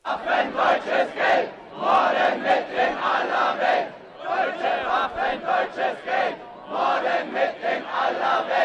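A large crowd of demonstrators chants loudly in unison in a city street, voices rising and falling in a steady rhythmic cadence of repeated phrases, with brief pauses between chant cycles.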